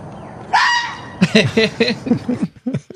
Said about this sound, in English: Wow. So, there you have it. That is at least one thing that the fox says.